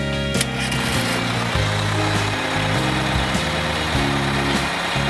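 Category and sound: vehicle, school bus engine idling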